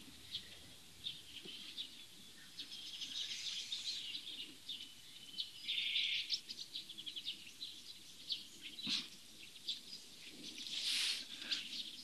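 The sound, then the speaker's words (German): A bird sings in the background, a string of bright, high chirps and trills repeating irregularly over a soft outdoor hush, moderately quiet, with no one talking. “Ich lasse kurz Pause, denn wir hören einen wunderbaren Vogel im Hintergrund.”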